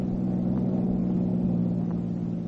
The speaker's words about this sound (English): And on this September day, as they thread their way through New York City traffic after a long drive from the country,